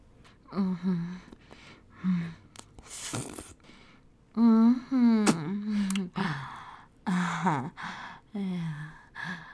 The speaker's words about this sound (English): Yeah. Oh, I love those little moans and gasps.